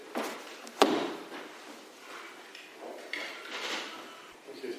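A battery being swapped in a small device: one sharp plastic snap near the start, then soft handling, rustling and faint clicks, with no voices.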